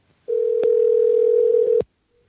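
A steady telephone dial tone hums at a single pitch for about a second and a half, clear, with faint clicks near its start and end before it cuts off, as a call is placed to author Susan Lindauer at her home in Tacoma Park.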